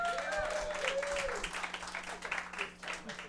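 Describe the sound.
An audience claps in a dense, steady burst of applause lasting the whole moment, with a few voices and whoops rising over the clapping early on.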